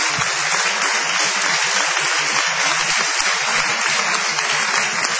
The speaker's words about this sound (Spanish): Vamos a aplaudir fervientemente